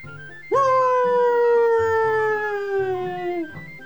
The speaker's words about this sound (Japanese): 武蔵が誇らしげに一つ大きく吠えた場所は、野口家の墓と掘られた石の前だった。